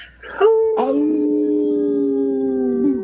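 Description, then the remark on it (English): Two people howl together in imitation of wolves, their voices sliding up and then holding long, steady overlapping notes for a few seconds, loud. “Thanks for not leaving me to howl on my own today”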